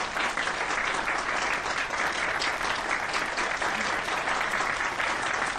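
An audience applauds a group of women steadily for several seconds, a dense, even wash of many hands clapping at constant loudness with no pauses and no voices standing out.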